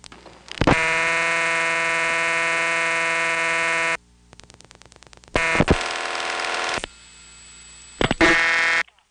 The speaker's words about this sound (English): Here's what it sounded like to use the phone in a rural community served by the Bell System. This example is Rockmart, Georgia.